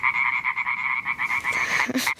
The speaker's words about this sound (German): Und durch meine tolle dicke Schallblase, die ich mit der Atemluft aufpumpe, wird das so richtig schön laut. Quack! Wir Laubfrösche sind zwar die kleinsten heimischen Frösche, aber dafür die lautesten. Mit einem Rasenmäher können wir locker mithalten.